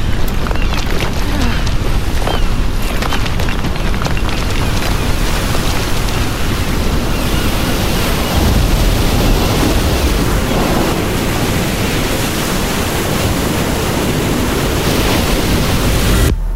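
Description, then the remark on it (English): A loud, sustained roar of a rogue ocean wave crashing over a boat, dense surf and wind noise filling the whole stretch with no pauses and no voices. “Holy shit. Rogue wave.”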